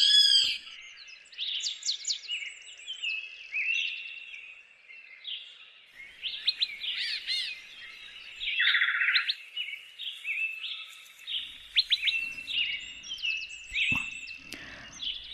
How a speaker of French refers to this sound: les chants d'oiseaux ont quitté les sous-bois pour se glisser en douce dans le studio d'Albatros